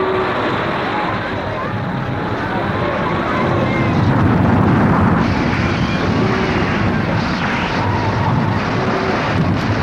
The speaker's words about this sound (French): Un vent glacial court le monde.